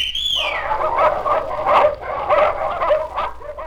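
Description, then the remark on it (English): A small dog barks and yips excitedly in a rapid, continuous string of high-pitched bursts, fairly loud, after a brief falling whistle-like tone at the start. “Where has your little dog gone?”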